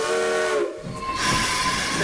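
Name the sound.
train leaving the station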